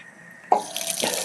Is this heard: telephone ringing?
no